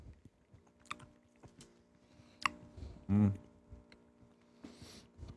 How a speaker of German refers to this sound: Na komm, hepp, hepp, beißen, kauen.